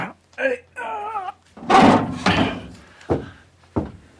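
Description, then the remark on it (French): A wooden chalet door creaks open with a drawn-out groan, then bangs in several heavy wooden thuds, the last two short and sharp, fairly loud. “Bah, depuis quand il y a une porte de chalet?”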